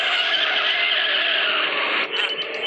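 A car's tires shriek in a loud, sustained squeal as it tears away, reproducing the moment Doc starts the time machine car in Back to the Future. The high screech holds steady for a couple of seconds before briefly dipping and returning, with no voices present.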